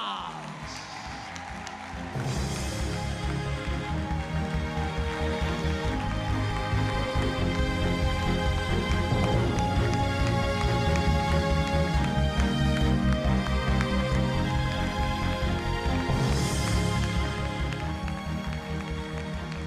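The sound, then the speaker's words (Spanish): An audience of about 1,500 people at a political rally in La Orotava, Tenerife, breaks into applause for Ana Oramas after a quieter opening couple of seconds, then keeps clapping at a steady, loud level for the rest of the stretch, a dense patter of many hands. “Y este es nuestro aplauso para ella, Ana Orama.”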